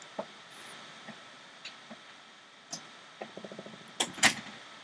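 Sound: door being opened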